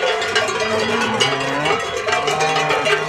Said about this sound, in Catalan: I aquestes són les mateixes vaques quan arriba el ramader amb una bossa de plàstic carregada de sal.